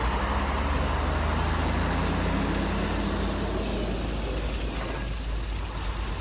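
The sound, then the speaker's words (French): A truck rumbles steadily on a road by the sea, passing slowly through the landscape under a white winter sky in light mist, its low engine drone and broad road noise holding fairly loud throughout, with no voices. “Et puis un camion s'est arrivé.”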